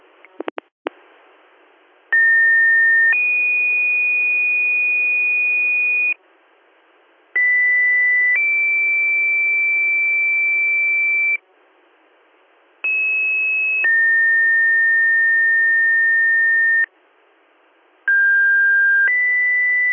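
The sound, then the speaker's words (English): Four sets of fire pager alert tones for the weekly siren and pager test of West Union, Troopsburg, Greenwood, Canisteo, Jasper and East Campbell fire departments sound one after another, each a brief steady tone followed by a longer, different-pitched tone, loud and clean with short gaps of near silence between them. “Stand by for your weekly siren and pager tests.”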